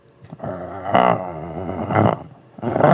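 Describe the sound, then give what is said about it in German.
A person growls like a dog, a low rumbling voice rising into three loud, throaty bursts over about three seconds, with no other sounds. “Ich wollte einfach nur noch mal knurren.”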